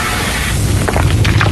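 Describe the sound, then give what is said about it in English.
A heavy, continuous rock slide rumble at a quarry, deep and loud, with a few sharper crunching bursts toward the end as debris tumbles. “It sounds like a rock slide to me.”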